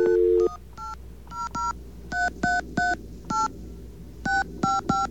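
Push-button telephone dialing tones as someone dials the MTA Bridges and Tunnels EasyPass Service Center number: a quick run of about eleven short, clear beeps in uneven bursts, each a steady dual-pitched tone, with a low line hum underneath and no talking.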